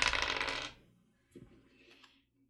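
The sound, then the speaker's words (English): Dice are re-rolled in a tabletop game, two of them re-rolled for showing explosions. They rattle and clatter loudly for a moment, then quieter clicks and taps follow as they tumble and settle. No voices are heard. “I'm going to re-roll both those explosions.”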